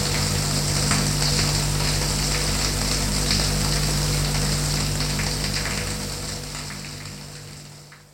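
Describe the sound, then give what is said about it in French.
Steady, hissing spray of shower water runs continuously, a dense even patter that holds for several seconds before gradually fading toward the end. No voices. “Une fois chacun dans leur chambre, ils se déshabillent pour aller prendre une douche.”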